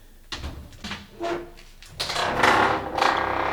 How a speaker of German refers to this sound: Still! Ich höre Schritte!